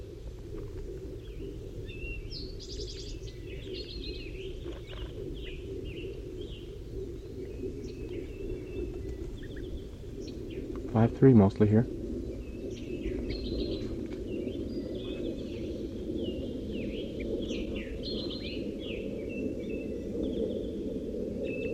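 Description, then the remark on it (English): A wild gray bird that has landed in a pine tree calls with a series of thin, high chirps over a steady low rumble, with a short louder burst partway through. A voice speaks briefly. “Oh, one of the wild birds is coming in now. I just saw it land in the pine tree. 5-3 is calling to it.”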